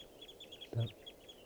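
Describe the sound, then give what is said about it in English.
A flock of birds in a park calls continuously with overlapping high, thin chirps, broken by one louder, lower-pitched squawk partway through. No one speaks. “The flock is calling more now.”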